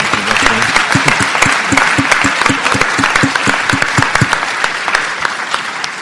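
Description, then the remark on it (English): An audience at a panel discussion applauds steadily, dense overlapping claps holding at a loud, even level for several seconds with no one speaking. “And I just want to applaud you and never stay silent in a room when you feel uncomfortable.”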